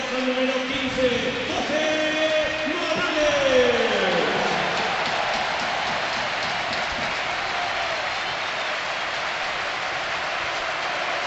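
Steady applause from a large stadium crowd at a Villarreal football match, an ovation for Morales as he is substituted off, a dense unbroken wash of clapping that holds at an even level for about eleven seconds, with a voice talking over the first few seconds.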